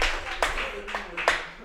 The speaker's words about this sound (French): Ah bah c'est le moment que vous applaudissez.